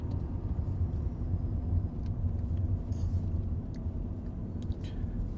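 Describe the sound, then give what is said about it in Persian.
A steady low engine rumble fills a car cabin as it drives along, a continuous droning hum with faint road noise and no voices. “جاوید و بهمن تو ماشینن.”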